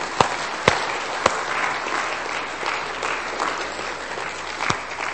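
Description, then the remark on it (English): A church audience applauds a wedding couple attending the service the day after their wedding, a steady, dense wash of clapping that holds for several seconds, with a few sharper, louder claps standing out at the start and near the end. “By the way, when you get married on a Saturday, it's not required that you come to church, but we will applaud you if you do.”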